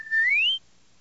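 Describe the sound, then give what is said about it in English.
A single short electronic droid whistle, a bright tone gliding upward in pitch for about half a second as an invitation to follow, loud, then silence. “Then the droids cleared a path for R2 as he made his way to the door, whistling an invitation to follow.”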